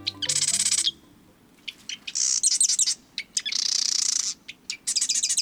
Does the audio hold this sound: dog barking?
no